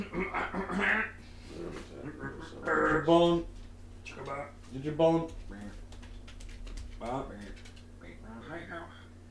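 dog panting

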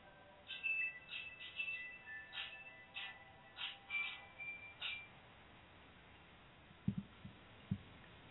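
phone ringing

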